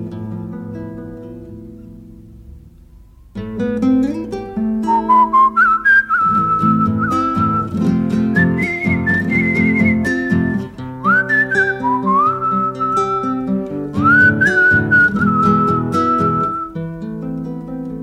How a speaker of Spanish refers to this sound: Cómo le cuesta a la pobre, ayúdala con el silbo, ayúdala con el silbo.